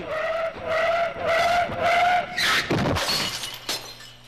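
Car tires screech loudly in several long, wavering squeals, then a sudden crash of metal and shattering glass follows, with debris settling afterward. No one speaks.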